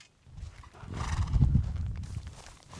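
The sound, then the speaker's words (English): An adopted horse, which is eating, whinnies while its hooves clop steadily on the ground, the sounds rising to a fuller peak midway and then easing off, with no talking. “The adopted horse is oblivious to the massive column of smoke rising west of here.”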